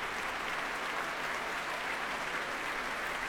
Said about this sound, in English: And applause now for the members of the BBC Symphony Orchestra.